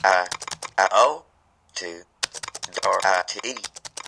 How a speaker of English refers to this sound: When I type, you will basically hear it speak all the characters that I typed.